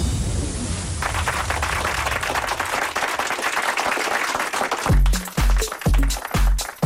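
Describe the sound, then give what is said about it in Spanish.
A dense burst of hand clapping, like applause, fills the first seconds of an electronic house music track on a radio programme, then a steady beat with deep thumping bass pulses kicks in as the clapping continues, opening the programme's third and final segment. “Mira qué maravilla que nos aplauden por aquí la entrada en este tercer y último bloque del programa de hoy.”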